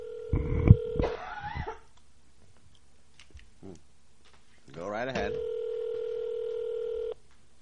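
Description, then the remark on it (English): Steady electronic telephone tones sound twice as a guest is called on the phone line, a short burst at the start and a longer ringing tone near the end, with a voice briefly speaking over each, clear. “Try not to cough when he answers the phone.”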